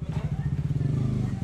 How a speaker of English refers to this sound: A man on a motorbike weaves his way down a rubble-strewn street.